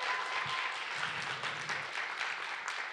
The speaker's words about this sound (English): Can we give a hand clap to our worship team, please?